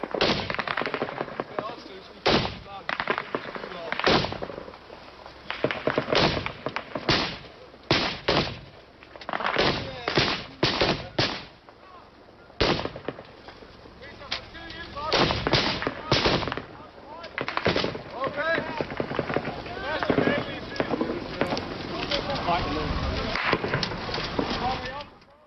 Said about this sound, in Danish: Ja, de brager, man kan høre baggrunden. Det er faktisk, de højbrager, det er os, der skyder. Det er optaget inden fra vores, det hus, jeg lå i første deling. Og de brager, man kan høre, det er os, der skyder.